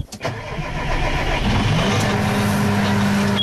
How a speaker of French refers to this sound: Il est automatique, comme une voiture sans vitesse en fait. Ce joystick-là, quand on l'avance, le tracteur avance. L'accélération, c'est cette poignée en fait.